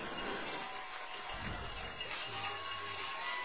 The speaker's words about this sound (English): The Clay County faithful who made the trip, not very happy with the way things are going now. They start to applaud.